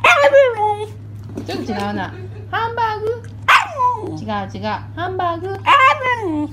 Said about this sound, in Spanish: Un perro así literalmente dice hamburguesa.